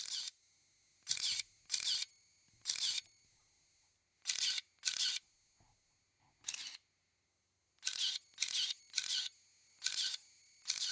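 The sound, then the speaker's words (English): A Contax ST film SLR camera fitted with a Zeiss Planar AEJ lens fires its shutter about ten times in irregular succession, each release a crisp mechanical clack with a brief whir, separated by short quiet pauses and no talking. “I have got my Zeiss Planar 1750, the AEJ version, and I'm going to test out the sound of this fantastic shutter.”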